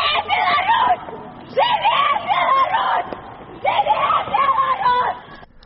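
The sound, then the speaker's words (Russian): A group of topless female activists carrying lit torches shout together at night in Kyiv, outside the building where Belarus's leader was staying, in three loud, chant-like bursts separated by brief pauses, their raised voices strained, with a faint crowd murmur in between. “Оголеные по пояс активистки с криками и запаленными походнями в руках прошли до будинку у Киеве, где ночевал керовник Беларуси.”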